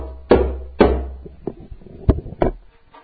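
A djembe played by hand: two deep, booming bass strokes followed by three sharper, lighter slaps in an uneven rhythm, with no talking.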